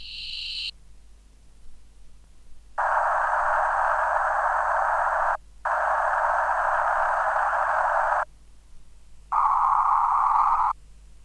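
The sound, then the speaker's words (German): Sustained bands of electronic colored noise, several seconds each, switch on and off abruptly: a brief bright hiss, then two longer darker noise blocks and a shorter higher band, separated by near silence. “Das farbige Rauschen ist 5-mal vertreten, mit 2 hellen und 3 dunkleren Farben bildet es zur allgemeinen Tendenz des Steigens den Kontrapunkt.”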